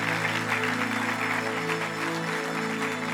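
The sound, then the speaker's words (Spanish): An audience claps steadily for about three seconds, applauding the Lord, a dense, even patter of many hands, with sustained low musical tones humming underneath and no one speaking. “¿Cuántos le pueden dar un aplauso al Señor por ello?”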